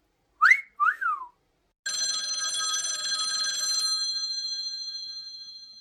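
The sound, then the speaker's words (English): A parrot gives a quick two-note wolf whistle, then mimics a phone ringtone with a steady, buzzy electronic-sounding trill that rings for about two seconds and fades out. No one speaks. “He wolf whistles and makes a possible imitation of Arthur's ringtone.”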